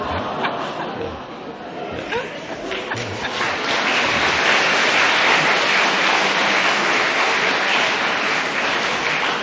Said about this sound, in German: Sie können klatschen, ist ja nicht mein Verdienst.